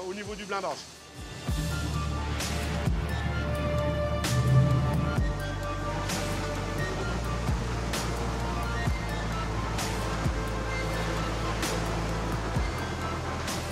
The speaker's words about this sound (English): Water constantly runs down from above just to cool the installation. Because with a massive amount of heat generated inside, despite the fire bricks that protect it, we need water to cool and protect the shoring.